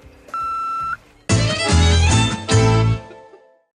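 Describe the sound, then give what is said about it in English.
A single steady voicemail beep, a flat mid-high tone lasting under a second, then a short pause before loud, bright, brassy music bursts in with heavy low notes. “Hi, you know what to do after the beeparoni.”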